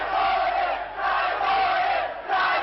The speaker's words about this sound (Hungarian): Áruló. Ezt kiabálják, és a transzparenseken is ezt üzenik a katonáknak a tüntetők.